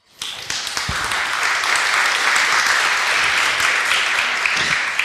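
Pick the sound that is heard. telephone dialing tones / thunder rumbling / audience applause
audience applause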